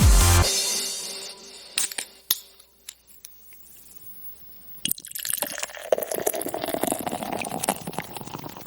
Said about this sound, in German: Warte, ich muss noch einmal ganz kurz hier noch ein Wasser aufmachen. Wasser.